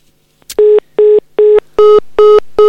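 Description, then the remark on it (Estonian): A telephone line's tones sound as a phone connection is restored, in a steady series of six evenly spaced beeps, each short and loud, after a brief click, with no talking. “No nii, telefoniühendus on taastatud ja meil on telefonil”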